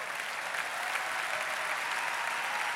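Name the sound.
audience applause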